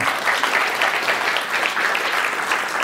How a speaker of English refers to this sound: I will not interrupt an applause line for Intelligence Squared. I almost did.